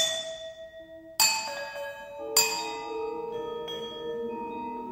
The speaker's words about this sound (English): The dominant sounds come from marimba and vibraphone, but about 20 other instruments are featured, including the cajon, hand clamps, and Indian Noah bells, which are then electronically processed.